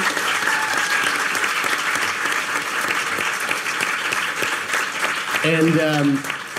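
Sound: audience round of applause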